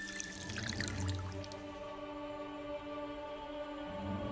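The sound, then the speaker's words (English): A small amount of water is poured from a small bowl into the palms of a monkey idol, a soft splashing trickle for the first second or so, then fading into a low, steady hum. Quiet, with no voices. “Gently, she reaches up and pours some water into the palms of the idol.”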